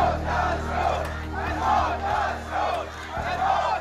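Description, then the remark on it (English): A crowd of protesters in the Saudi Arabian village of Al-Amawiyah chants in unison "down with the Saud, death to the Saud" after the beheading of cleric Nimr al-Nimr, a loud repeated rhythmic slogan rising and falling in regular waves over a steady low hum of massed voices. “A crowd of protesters in the Saudi Arabia village of Al-Amawiyah chanting down with the Saud, death to the Saud, after the beheading of cleric Nimr al-Nimra.”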